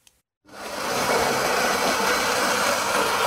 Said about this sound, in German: Für Millionen gehört dieses Geräusch von zermahlenen Kaffeebohnen zu einem guten Start in den Tag dazu.